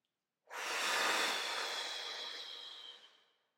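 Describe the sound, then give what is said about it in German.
A single deep inhale followed by a full exhale: a long, airy rush of air lasting about three seconds that gradually fades away, with no one speaking. “Atmen tief ein.”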